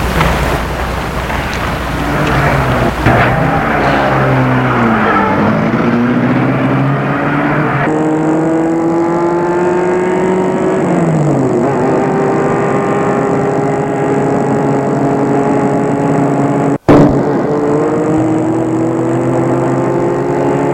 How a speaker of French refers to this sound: Et le chauffeur met en route la voiture.